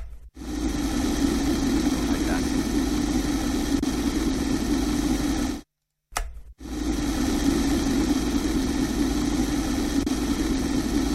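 An electric kettle heating, a steady rushing roar over a low droning hum that holds constant, broken once by a brief cut to silence midway before resuming.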